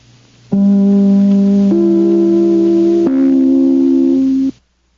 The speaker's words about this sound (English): Just as soon as I ring my chime, this is NBC, the National Broadcasting Company.